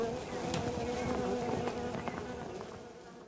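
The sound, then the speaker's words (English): A dense, continuous droning buzz of a swarm of wasps from a nest in a tree broken open by bullets, steady, with overlapping wingbeat hums swelling and slightly fading over a few seconds. “It was your wasps that did that. Wasps? Oh, you mean the nest in the tree. You broke it open with bullets and golly.”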